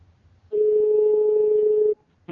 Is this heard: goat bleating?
no